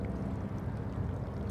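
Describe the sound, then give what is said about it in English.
Gentle seawater sloshes and gurgles steadily through crevices among large rocks covered in barnacles and seaweed at Kitts Beach, Vancouver, on a calm, wind-still, slightly overcast, mild January morning. A soft, continuous low wash with no voices, fairly quiet. “The water moves calmly through crevices.”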